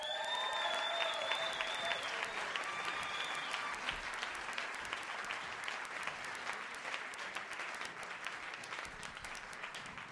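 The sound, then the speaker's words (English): A crowd at a live show being videotaped for YouTube stands and applauds steadily for about ten seconds, dense clapping holding a fairly even level, with a few high whistles and cheers cutting through early on before the clapping carries on alone. “Stand up, clap your hands, have a good time.”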